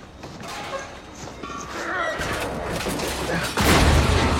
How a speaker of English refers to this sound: He grabs it and slams the door shut.